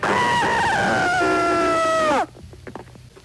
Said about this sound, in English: You ready for a scream? Yes.